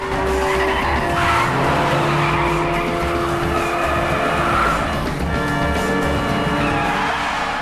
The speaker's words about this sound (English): Black car, go! The two men rush into the black man's black car, and they speed away from the scene, narrowly missing a car coming from the other direction.